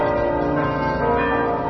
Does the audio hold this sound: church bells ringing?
yes